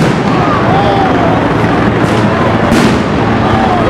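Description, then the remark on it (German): Two sharp stun grenade blasts, thrown by police into a group of mostly masked demonstrators a few blocks from a white elephant installation at a protest against racism, burst out about a second apart over a loud, constant roar of crowd noise and indistinct voices. “Wenige Blocks vom weißen Elefanten entfernt wirft die Polizei Betäubungsgranaten in eine Gruppe Demonstrierender, größtenteils vermummt.”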